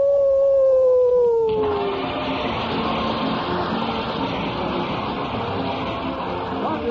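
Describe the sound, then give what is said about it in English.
A single loud, drawn-out howl from a stray dog at the door, its pitch sliding slowly downward for about a second and a half before a dense wash of noise swallows it. “Why, it's a stray dog.”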